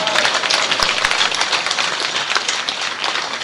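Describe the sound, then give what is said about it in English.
An audience at a festival in Mayapur claps steadily for a few seconds, a dense, continuous wash of many hands applauding together at moderate loudness, with no voices standing out. “I hope those that are clapping, they will give this time.”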